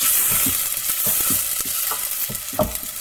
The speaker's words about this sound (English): You're frying that garlic onion and chili. Is in the pan with a bit of olive oil. Ooh. You've absolutely nailed it, although there was bay leaves in there as well.